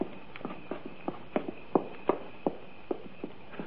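Footsteps of police officers walk steadily up to the front door of a building in the middle of a field, about a dozen crisp, evenly spaced steps with a mild uneven pairing, moderately loud over a low background hiss.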